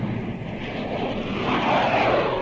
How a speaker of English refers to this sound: Hear those jet planes? Now you see them?